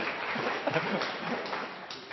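An audience breaks into applause, a dense, steady patter of many hands clapping at once, holding an even, moderate level for about two seconds with no voices over it.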